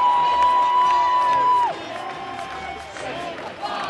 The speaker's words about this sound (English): As the final siren sounds, the crowd erupts, and the year that was comes to an end. Essendon winners by 24 points.